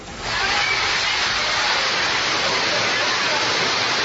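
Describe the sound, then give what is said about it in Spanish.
A loud, steady roar of rushing floodwater fills the scene, a powerful street torrent (arroyo) in the Barrio Bajo sector of Barranquilla surging without pause, sweeping along a car with four occupants trapped inside, with faint traffic-like rumble beneath. “Eran los cuatro ocupantes de este vehículo que fueron atrapados por la corriente del temible arroyo en el sector del Barrio Bajo de Barranquilla.”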